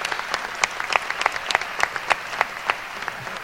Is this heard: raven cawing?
no